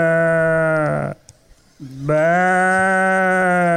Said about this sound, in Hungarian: Szomjas birkát fogunk hallani.